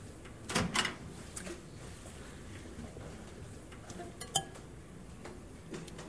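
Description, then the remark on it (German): A microwave door clunks open with a pair of sharp knocks, followed by soft handling sounds as a raw egg is set inside, then a single light click later. “Dann nehmen wir ein rohes Ei und geben das einfach einmal in die Mikrowelle.”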